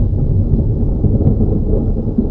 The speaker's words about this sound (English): Oh, by the way, if there's any cracks, there's a hell of a thunderstorm going on, so if you hear any bangs, that's what it is.